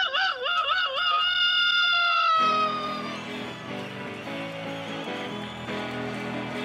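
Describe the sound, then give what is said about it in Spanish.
A person imitates a rooster crowing as a homemade doorbell in place of a broken doorbell: a loud, wavering, warbling cry lasting a couple of seconds, which then gives way to a burst of music that continues underneath. “Yo le voy a dar timbre casero. Dale, …, cacarealo por tu cuerpo”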